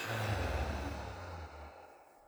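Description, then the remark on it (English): A single deep, airy breath in and out, fairly soft, its rushing noise slowly tapering away over a couple of seconds with no talking; one of three deep breaths. “And all together, you can take 3 deep breaths. Breathing in and letting go.”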